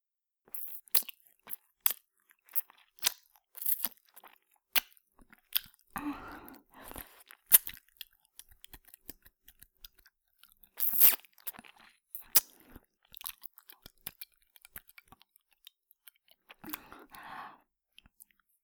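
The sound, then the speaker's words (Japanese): Wet, smacking mouth sounds of ear licking repeat in an irregular rhythm, with sharp clicks and slurps plus a few longer breathy, sloppy stretches, moderately loud with no talking. “私の耳なめでおちんちんビクビクっと反応してるじゃないですか。”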